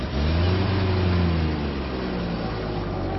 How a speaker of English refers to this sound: A big van arrived. It swallowed all the boxes and furniture and curtains, and it drove off.